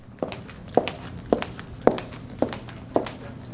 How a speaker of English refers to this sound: Let's listen, actually. We've recorded some footsteps.